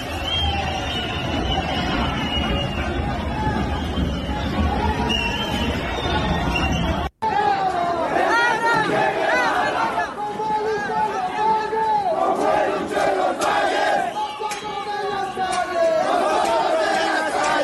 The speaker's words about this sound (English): this is crowds that are forcing their way into some of these government buildings